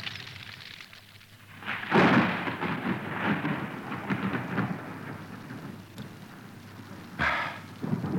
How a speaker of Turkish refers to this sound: Gök gülüyor. Allahu alem yağmur yağacak. Yağmur hızlandı. Epeyce ıslanacağız herhalde.